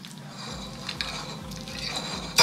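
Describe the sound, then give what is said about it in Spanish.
Soft scraping and light taps of utensils on dishes over a low hum, ending with one sharper, brighter clink of metal against a plate near the close, as people finish eating a dish made with carrot, squash, spinach and eggs. “Acá ya estamos comiendo, estamos terminando.”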